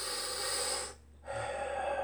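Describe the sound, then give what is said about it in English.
A deliberate, audible breath: a long airy inhale, a brief pause, then a steady breathy exhale, with no talking. “Yahweh is a breathing sound. Yah is to inhale.”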